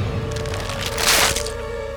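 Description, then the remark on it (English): A man's spine snapping under heavy pressure on his back as he lies face down in mud: a crunchy, brittle crack that swells to a loud burst midway through, set over a steady low hum and lingering crackle. No one speaks. “He heard his spine snap before he felt it.”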